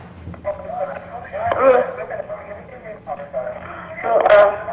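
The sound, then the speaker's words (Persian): A television plays in the background at a caller's end of a phone line into a radio call-in show, the caller phoning from Iran; its muffled, tinny voices and sound run continuously at moderate level with a couple of brief louder swells. “صدای تلفن تلویزیون تو کم کن لطفا.”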